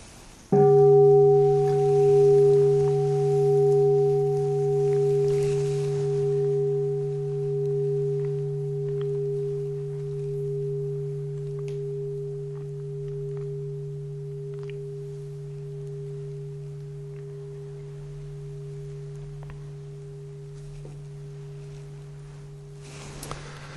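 A single strike of the speaker's own bell rings out with a rich, sustained low tone and a steady higher overtone, humming on and slowly fading over about twenty seconds with no other sound.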